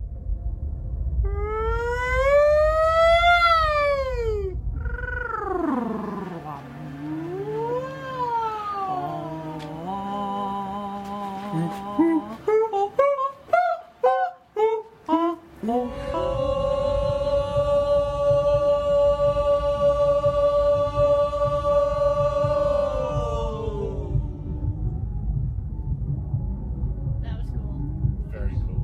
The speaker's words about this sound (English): So the range of sounds that we made inside the dome, I mean, people were in there either singing maybe a familiar tune or just shouting at the dome.